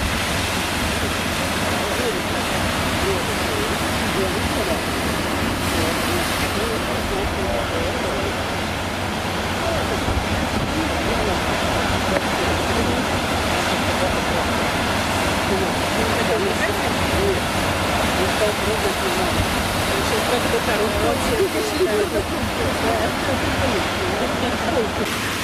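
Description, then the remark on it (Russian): Loud, steady roar of wind and waves crashing on a seashore with azure water, with flying spray, a dense continuous rush of spray and surf lasting the whole time with only slight swells in intensity. “Да, здесь тоже ветрено. Еще и брызги, кстати, я вот чувствую прям лицом.”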